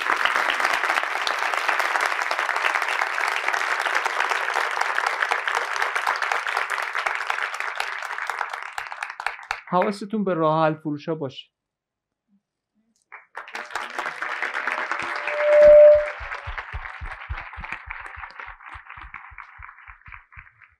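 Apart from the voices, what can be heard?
audience applause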